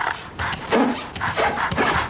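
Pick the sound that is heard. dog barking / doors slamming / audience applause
dog barking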